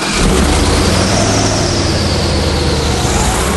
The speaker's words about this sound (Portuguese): Esse aerobarco é a embarcação ideal para circular aqui pelos pântanos da Louisiana. Ele usa um motor de carro de corrida e que fica completamente fora d'água. Pode ir até 150 km por hora.